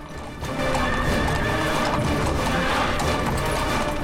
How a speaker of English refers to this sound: Robin's galloping towards the town with a second horse carrying a hooded figure on its back by his side